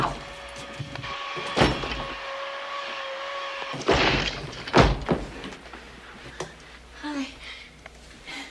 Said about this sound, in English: You either open up this door or I'm going to break it down.